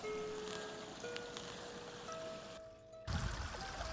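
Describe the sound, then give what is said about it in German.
A babbling brook at the brook station of the Schneidacher Liederweg flows steadily, a continuous watery rush that briefly thins out near the end before surging back fuller and louder. No voices are heard. “Station am Bach.”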